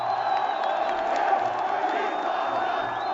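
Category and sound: crowd, crowd cheering wildly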